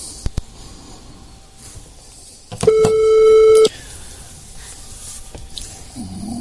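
A telephone call tone sounds once as a radio host places a phone call to a caller. It is a steady, mid-pitched electronic beep lasting about a second, clearly louder than the quiet background hiss around it.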